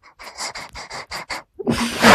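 A dog pants in a quick, steady rhythm of about seven short breathy bursts, then a louder, rougher huffing rush of breath swells at the end. No one speaks.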